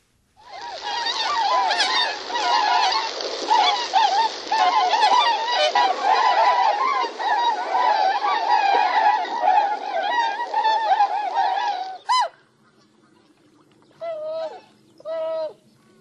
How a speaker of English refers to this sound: So that was the tundra swan